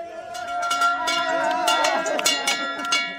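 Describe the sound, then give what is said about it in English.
The arrival bell on the dock at Thomas Basin in Ketchikan is rung rapidly and repeatedly, its bright clangs overlapping into a sustained, ringing tone for several seconds while people chatter and call out. “at Ketchikan's Thomas Basin, they were all smiles and delighted to crack open a six-pack of beer waiting for them on the dock, which they grabbed while officially ringing the arrival bell.”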